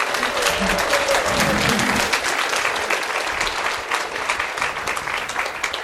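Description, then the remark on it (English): Sustained applause from a sizable crowd at a wedding ceremony, dense and steady clapping filling the space for several seconds, with faint voices murmuring underneath, given for the couple on the day of their marriage. “Please give them a big round of applause today to the auspicious day of their marriage.”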